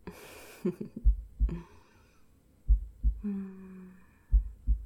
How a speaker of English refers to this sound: You can hear my heartbeat.